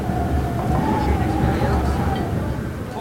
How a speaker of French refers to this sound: La nuit est en train de tomber sur le refuge du Larribé. Le vent souffle fort, il tente de se faufiler sous la porte du réfectoire.